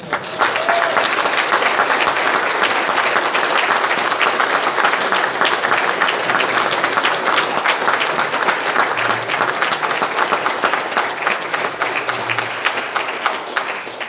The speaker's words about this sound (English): round of applause.